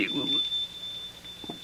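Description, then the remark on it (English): A shop door bell tinkles, a thin high-pitched ring that starts bright and then hangs on as a steady, fading tone, with faint voices murmuring underneath. “That is the tinkle of the shop bell.”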